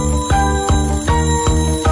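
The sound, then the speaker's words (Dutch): An alarm clock bell rings loudly, a steady series of five quick metallic strikes in two seconds, each with a bright sustained ring and no voices. “Ik wil die wekker niet meer horen, want ik heb nog geen zin om op te staan.”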